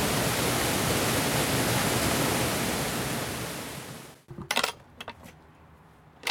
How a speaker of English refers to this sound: So this is the mill. And you can hear the water flowing through the building.